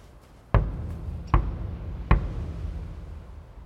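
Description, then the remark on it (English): Three firm knocks on a closed door, evenly spaced about a second apart, each with a heavy low thud and a short echoing decay, with no voices present. “Knock.”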